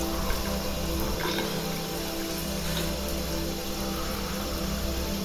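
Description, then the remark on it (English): Shower water streams down steadily in a continuous hissing spray, with a low background hum underneath and no voices, holding an even level throughout. “Without turning to look behind her, Anna pulls the shivering Damon towards her to join in her body heat and the water stream.”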